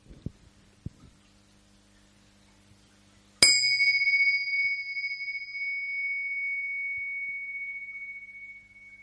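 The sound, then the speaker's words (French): A single meditation bell, a gong, is struck once during a group meditation session, ringing out clear and loud, then sustaining a long, pure tone that slowly fades over several seconds with no talking. “Voilà, avant d'aller plus loin, je vais faire sonner une cloche, et cette cloche, c'est un rappel à notre présence pure, jusqu'à la fin de ce gong.”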